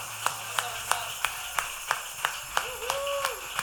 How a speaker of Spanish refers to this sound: ¿Por qué no le damos un aplauso nuevamente a Cristo? ¡Aleluya!